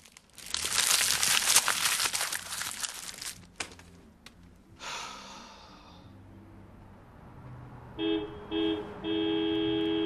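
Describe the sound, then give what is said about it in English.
A few seconds of loud paper crumpling as an empty money envelope is crushed, with quieter rustling, then a car horn toots twice in short bursts and holds a longer blast, fairly clear. “He crushes the empty money envelope, but then hears a car horn tooting.”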